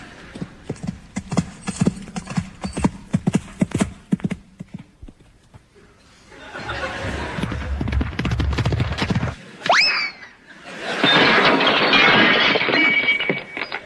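David Broome's horse's hooves thud in a quick, uneven rhythm during a show jumping round against the clock, then a swell of crowd noise, a brief high rising squeal, and a loud sustained burst of cheering.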